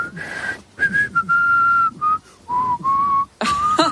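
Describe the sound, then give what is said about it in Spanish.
A person whistles the Madrid anthem tune alone, slowly, a series of sustained, wavering notes with brief gaps between phrases, moderately loud. “Bueno, ya ves que sí, en esto de los silbidos hay de todo, gente que por más que lo intenta no emite ni un solo sonido y gente que oye, bueno, pues más o menos sí”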